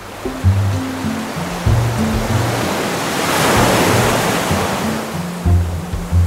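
Sea waves wash and slap against a boat's bow in a steady, surging roar that swells to a peak midway, with a low droning musical tone humming underneath.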